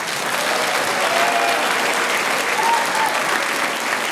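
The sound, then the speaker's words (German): An audience claps steadily in approval of two people doing the job again next year, a dense wash of many hands applauding at an even loudness from start to finish, with no voices rising above it. “Und wenn Sie das wollen, dass Sie nächstes Jahr das wieder machen, dann bitte ich jetzt um einen Applaus.”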